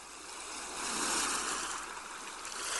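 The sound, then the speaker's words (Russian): Ocean surf washes in a continuous broad hiss, swelling to a fuller roar about midway and easing slightly before building again, with no voices present. “Шум прибоя задает ритм вашему дыханию.”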